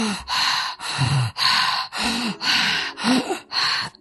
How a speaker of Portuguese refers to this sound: Então, você vai fazer uma respiração pela boca, toda pela boca. Então, você coloca a mão aqui no timo, você pode inclinar um pouquinho a cabeça para baixo, não muito, e aí você vai fazer esse tipo de respiração, assim.